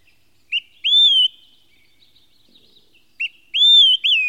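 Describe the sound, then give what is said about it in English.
A bird sings clear, high whistled phrases: a short note followed by a longer sweeping whistle, repeated twice with a pause between, fairly loud with no other sounds. “the birds came back.”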